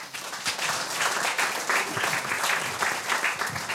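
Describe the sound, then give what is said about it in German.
Sustained applause from a crowd welcoming a guest at the Monsters of Content Marketing event, a dense steady wash of many hands clapping at once, fairly loud and continuous with slight swells, and no talking over it. “Nochmal herzlich willkommen und einen satten Applaus”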